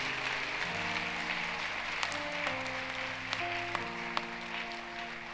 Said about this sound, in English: Those of you who are clapping, the miracle is coming. I receive it.